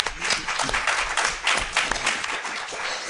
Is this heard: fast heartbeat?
no